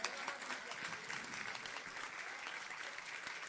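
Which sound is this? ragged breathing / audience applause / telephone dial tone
audience applause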